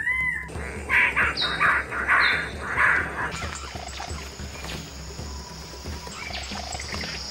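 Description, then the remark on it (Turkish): Loud, harsh bird-of-paradise calls repeat in a burst of four or five rasping squawks, followed by softer scattered calls and chirps against a steady forest hum; no clear wing sounds stand out. “Cennet kuşları sadece ötmez. Kanat çırparlar. Tüyleri titreştirirler. Mekanik sesler üretirler.”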